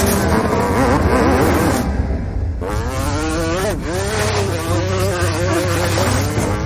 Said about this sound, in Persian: مراقب باش، به کمپ نزدیک شدی. وقتی گابریل صدای موتور رو بشنوه.